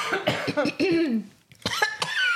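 repeated coughing

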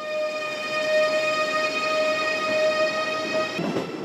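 high-speed train

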